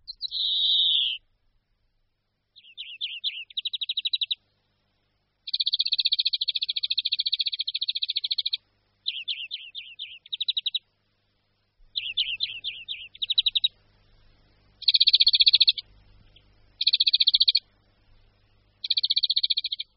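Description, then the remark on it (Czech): A European greenfinch sings a run of rapid, high trills and buzzy rattling phrases, repeated with short pauses between bursts, while a faint low rumble comes in during the second half. “Je jen málo českých názvů opeřenců, které by tak perfektně vystihovaly zjev i hlas, jako je zvonek zelený.”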